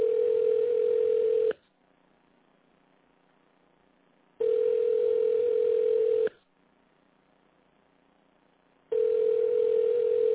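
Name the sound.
telephone ringing tone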